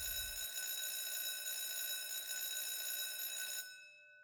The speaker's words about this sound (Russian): Звонит будильник.